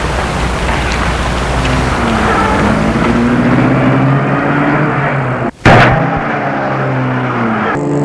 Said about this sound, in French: Ils se mettent en place et Gilles met la voiture en route.